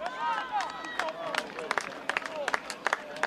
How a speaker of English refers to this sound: There's something interesting, though, that I'd like to point out. And we can hear it in that video. Let's hear the sound first of the crowd cheering your goal.